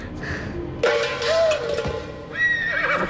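horse whinnying

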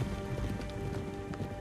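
horses galloping

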